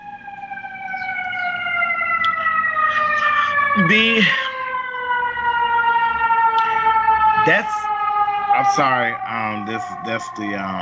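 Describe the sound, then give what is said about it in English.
A loud fire engine siren on the west side of Chicago holds a steady, sustained tone that slowly drops in pitch as it passes, with short bursts of people talking over it. “That's the fire engine.”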